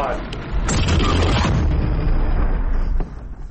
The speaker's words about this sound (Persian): آیا او برای ساخت اوپنهایمر دست به یک انفجار واقعی زده، چیزی شبیه به یک انفجار هسته‌ای؟